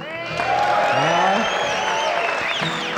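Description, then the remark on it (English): The men in a concert audience cheer and holler loudly when called on from the stage, many overlapping shouts and whoops rising and falling together over a steady wash of applause that holds strong for the whole stretch. “That's pretty good, but I bet them ladies can beat you now when it comes to screaming and hollering, can't they?”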